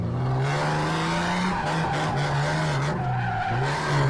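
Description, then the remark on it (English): A car driven by a professional driver drifts through about five full figure-eight donuts, its tires squealing continuously and the engine droning steadily underneath with slight pitch shifts as it swings around, loud. “He speeds up, shifts gears, and drifts in full figure eight donuts, about five of them.”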